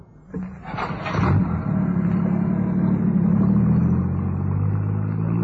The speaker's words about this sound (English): Angus accelerated and turned the car towards the coast. He drove fast.